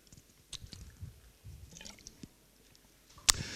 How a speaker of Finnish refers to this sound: Anteeksi, juon vettä.